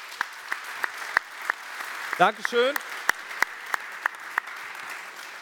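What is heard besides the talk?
audience applause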